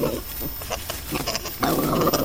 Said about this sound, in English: That is actually just spider monkeys at play, not real aggression.